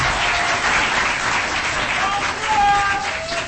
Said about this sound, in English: Wait, don't clap.